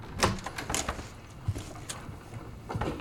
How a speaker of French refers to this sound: Des inspecteurs des services sociaux frappent à la porte.